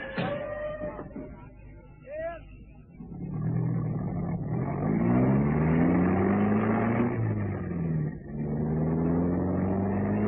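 A car engine starts up and revs, its pitch climbing steadily as the vehicle pulls away and accelerates, loud. A brief voice is heard at the very start.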